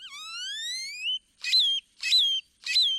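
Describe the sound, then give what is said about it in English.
A great-tailed grackle sings: a long rising, buzzy whistle followed by three harsh, metallic bursts in a steady rhythm, loud with no other sounds. “Songs can also be dry and mechanical, like this chipping sparrow's, or jumbled and metallic, like this great-tailed grackle's.”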